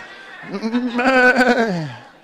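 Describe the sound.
A person imitates a goat with a long, quavering bleat, wobbling in pitch for about two seconds before trailing off.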